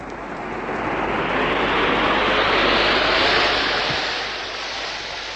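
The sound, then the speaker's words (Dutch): A spaceship engine starts up, a loud rushing roar that swells steadily over a few seconds, peaks, then eases slightly while still thundering on, continuous with no voices. “Giro contact.”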